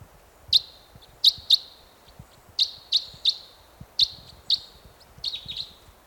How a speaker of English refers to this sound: One bird perched in the tree above the net site now. Chitter there.